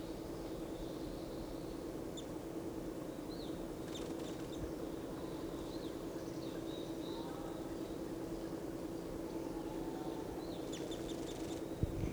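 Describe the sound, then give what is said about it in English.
Small wild birds give thin, high chirps and short twittering calls, one of them in the top of a lodgepole pine right above a net, scattered irregularly over a steady low background hum. No one speaks. “So recording, one of the birds is in the top of a lodgepole right above the net.”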